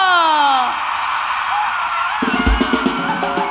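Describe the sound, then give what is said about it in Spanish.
At a fiesta in the barrio de la Villa in Ayutla, Guerrero, a crowd lets out a loud festive shout that rises and falls at the start, followed by a roaring crowd hubbub, then music starts up beneath the noise. “A la cuenta de tres, pinche grito machino, ¿ok?”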